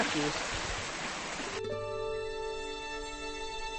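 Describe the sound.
In the palm house in Poznań, Poland, among hot, humid exotic plants, a soft, steady hiss of water falls like a light drizzle for a second or two, then it cuts off and a steady electrical hum with faint voices takes over.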